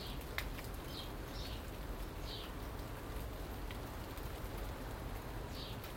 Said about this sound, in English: I'm sheltering below my Acer tree, which fortunately hasn't started. Well, actually it has. Well, it has started dropping leaves, but not so many that I can't use it as an umbrella because it's raining. Big change in the weather now.